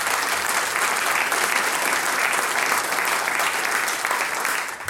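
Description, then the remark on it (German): Sustained audience applause at the Sänger- und Musikantentreffen stage for a guitarist of a band, a dense steady wash of many hands clapping at an even loudness for the full length, tapering slightly at the very end, with no voices standing out. “Er spielt die Gitarre, großer Applaus.”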